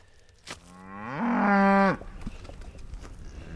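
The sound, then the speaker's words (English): A cow on a family cattle ranch lets out one long, loud moo, rising in pitch and then holding steady for about a second before cutting off, with faint outdoor background noise around it. “Yeah, here's the cows that we worked yesterday.”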